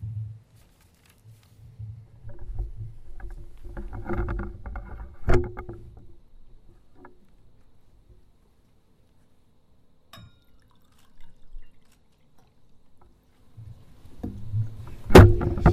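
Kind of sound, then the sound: nature, water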